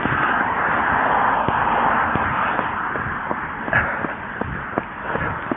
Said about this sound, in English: I apologize for some of the traffic you hear. It's very sparse this time of the morning.